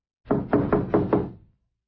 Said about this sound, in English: He was still puzzling over this annoying detail when he came upon the caretaker's cottage. After just a moment of hesitation, Harry knocked.